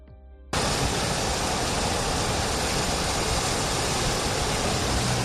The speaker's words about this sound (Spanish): Es el sonido del río Manzanares a su paso por el puente de los franceses. Nadie en la zona recuerda algo igual. Nunca habían visto tanto caudal en un río que ha quintuplicado su media histórica solo en el mes de marzo.